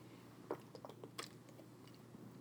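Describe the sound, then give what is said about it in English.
Someone takes a quiet sip of water, with a few soft wet mouth clicks and gulping sounds spread over a couple of seconds. No one speaks. “On a serious note, let me take a little sip of water.”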